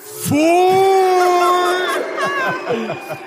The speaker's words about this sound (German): Es haben gerade alle geklatscht, außer so Leute, die morgen so um 4 Uhr aufstehen müssen.